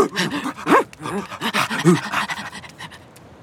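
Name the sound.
sled dogs panting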